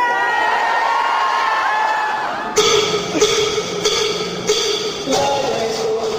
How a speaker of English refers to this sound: The one that I saw was in Washington, D.C., in this huge hangar-like space at the annual convention of the American Library Association. Librarians had packed the place and were screaming and cheering.